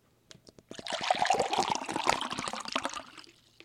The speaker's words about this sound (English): All right, I'm going to pour this out, and then we'll do the second one. To keep everything fair for this experiment, we're making sure I'm pouring it into the same cup every time here.